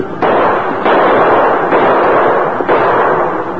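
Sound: gunshots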